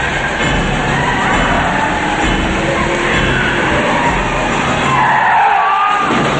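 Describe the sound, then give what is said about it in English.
Loud, sustained tire screeching with a harsh, echoing squeal as a car driven at full speed around a corner in a parking garage skids and fishtails on the smooth floor, the whine shifting in pitch near the end. “car fishtails and smashes into Gray's car.”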